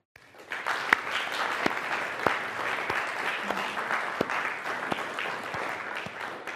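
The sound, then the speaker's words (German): A church audience at a Pentecost service breaks into sustained applause for God, a dense wash of many hands clapping steadily for several seconds, with a few sharper individual claps standing out from the crowd. “Und ich weiß nicht, ob du da mitmachen möchtest, aber ich möchte Gott einen kleinen Applaus dafür geben und ihm danken.”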